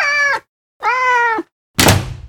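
A cat meows twice in a row, two drawn-out, steady cries with short pauses between, followed by a loud, noisy thump or rustle at the end.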